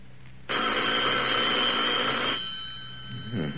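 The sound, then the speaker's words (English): An old-fashioned telephone bell rings once in a loud, continuous burst of about two seconds, then falls silent. No one speaks. “You'd better answer the phone, dear.”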